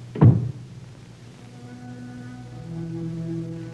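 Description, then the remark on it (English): A door shuts as a man walks out of a room, a single dull thud right at the start, then a low, steady hum of sustained tones carries on quietly with no voices. “A man walks out of a room, a door closes, and 20 years of marriage is destroyed in 20 seconds.”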